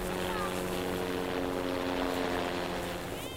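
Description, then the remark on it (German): A helicopter appears overhead, flying quite low, droning loudly and steadily, its low rotor hum layered with a whining engine tone and rushing wind noise, holding constant throughout. “Über uns taucht ein Hubschrauber auf.”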